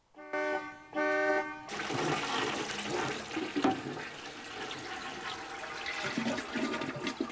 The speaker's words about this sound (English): … hasn't heard the horn over the sound of the toilet flushing.